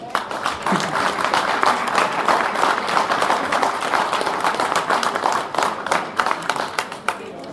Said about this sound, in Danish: Det var min søster, der sad derovre og startede med at klappe.